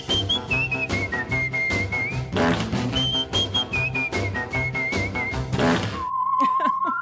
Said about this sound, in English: Yes, it's whistling whistleblowers with the courage to step forward and whistle. Whistle along with the whistleblowers. It's easy. Just put your legs together, bend over, and blow.